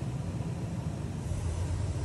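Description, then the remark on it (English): Airplane cabin noise inside a Boeing 737 in flight after a window and section of the fuselage blew off: a steady, dense roar of rushing air over a low engine rumble, unbroken and fairly loud throughout, with no voices. “Now, over at the New York Times, I can show you this this clip they have of someone sitting in the plane with a section blown off.”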